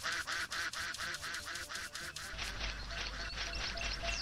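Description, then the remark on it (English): A duck in a video game mini-game quacks loudly in a quick, evenly spaced run of about nine quacks, then breaks into a denser, continuous squawking over a low rumble. No one speaks. “Come on, Mr. Duck. Let's go for a walk.”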